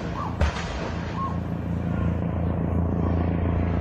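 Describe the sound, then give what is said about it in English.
A single sharp gunshot cracks out early, over the steady, low throbbing drone of a helicopter flying overhead, on a suburban street in Auckland at 8:30 on a Monday morning, where armed police stand at the entrance to a property. “The sound of gunshots ring out as a helicopter flies overhead.”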